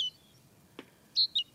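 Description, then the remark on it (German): A great tit sings a few high, clear whistled notes, a short note, then a pause and two quick notes close together, over a quiet background with one soft click. “bei den Kohlmeisen heißt es immer, dass die Zizibe singen.”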